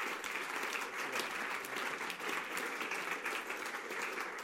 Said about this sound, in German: Ich würde sagen, auch er hat einen grossen Applaus verdient.